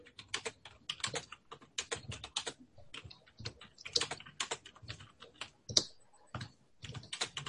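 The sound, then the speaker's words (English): Rapid, uneven keystrokes clatter on a computer keyboard, fairly loud, in bursts with brief pauses between words and no voices. “excuse my typing. I can go back later and fix it. I'm a terrible typist.”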